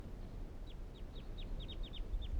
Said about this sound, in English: Recording the birds calling now again.